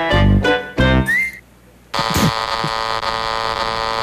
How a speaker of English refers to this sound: I didn't know that slide whistle was going to come in there.